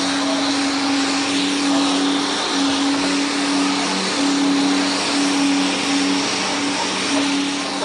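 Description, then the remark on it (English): A tuned, hopped-up Ford 289 V8 engine, rated at a maximum of 445 horsepower at about 7,000 RPM, runs steadily at a constant, fairly high idle, giving a loud, continuous droning roar with a low humming tone and no revving or pauses. “It is a hopped up Ford 289, the engine that powers Mustangs, Fairlanes, and Cobras.”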